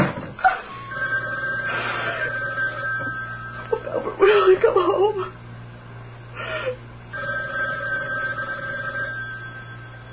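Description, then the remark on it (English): An old telephone bell rings in steady trilling bursts, a bright metallic jangle that stops and starts again, left unanswered, with a distressed woman's voice speaking between the rings over a low constant hum. “Let it ring. Let it go on ringing.”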